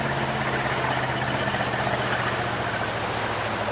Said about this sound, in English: All right, young fella. Slow the engine down.